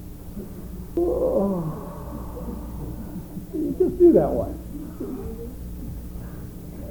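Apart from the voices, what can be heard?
yawn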